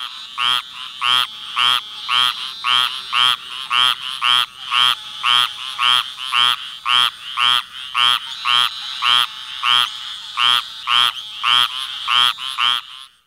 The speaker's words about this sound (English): The squirrel tree frog provides a very good example. The male's advertisement call is a nasal, buzzing, "rack, rack."